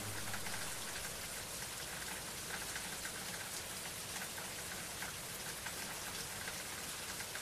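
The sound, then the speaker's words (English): Steady rain falls on a church roof, a dense, continuous patter of drops with a soft hiss, evenly loud throughout and heard alone with no voices. “Listen to the rain around this church and on the roof.”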